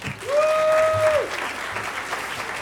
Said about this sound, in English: round of applause.